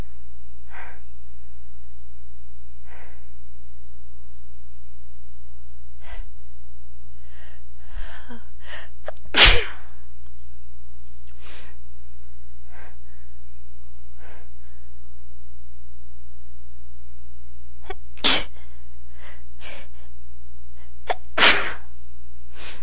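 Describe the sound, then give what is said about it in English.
Three sharp sneezes burst out several seconds apart, the last two coming closer together, with soft breathing and sniffles in between over a steady low hum; the sneezes are set off by little things falling off the trees. “They keep making me sneeze.”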